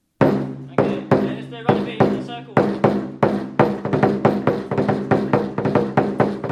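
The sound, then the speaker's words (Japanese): Lion dance drumming in Australia pounds out a loud, steady rhythm with ringing metallic overtones, the beats growing quicker and denser toward the end. No one speaks. “ライオンダンスのドラムのリズム、これはライオンの心臓の鼓動として知られています。”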